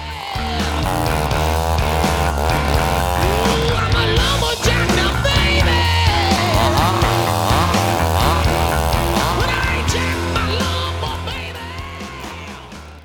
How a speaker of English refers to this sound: And of course, what you're hearing there here is the chainsaw.